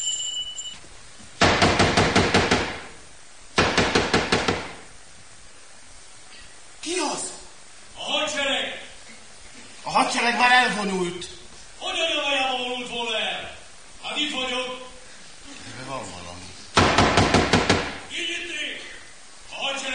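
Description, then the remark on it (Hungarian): A hidden compartment door in a wall is shut and locked with loud, rattling clunks, two close together near the start and another later, while people talk in between. “rá sem pillantva, automatikusan rázárja a rejtek ajtót.”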